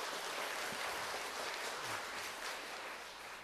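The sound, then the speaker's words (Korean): A group applauds at a Sunday school awards ceremony at Dream Church, with dense, steady clapping that stays even throughout and tapers off slightly at the end. Nobody speaks over it. “네, 큰 박수로 앉아있으면 좋겠습니다.”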